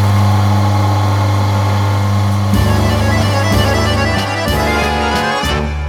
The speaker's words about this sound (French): Voilà, donc l'empattage, ça va être cette infusion de céréales qu'aujourd'hui je vais réaliser à 65 degrés. Donc on est parti. Hop. Je lance le moteur et je vais intégrer la céréale.